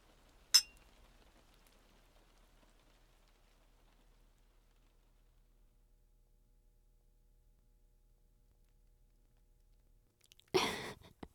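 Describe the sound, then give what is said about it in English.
Glasses clink together once in a quick, bright toast near the start, followed by a long stretch of near silence and then a short, louder noisy burst at the very end. “Cheers.”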